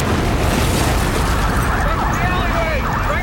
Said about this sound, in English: Before firefighters can put out the blaze, a second explosion, more powerful than the first, rocks the area.